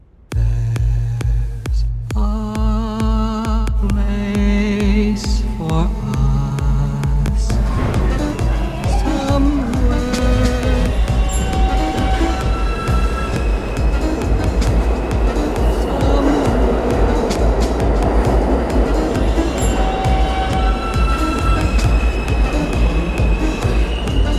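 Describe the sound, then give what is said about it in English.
A subway train's traction motor inverter whines in stepped, rising musical tones as the train accelerates. The sound comes from the inverter converting an old electrical waveform so a new motor runs efficiently. Underneath is a deep, steady rumble of wheels and rails that grows denser and noisier. “the noise itself is created by something that is reconciling an old system of wave into a new motor to be efficient.”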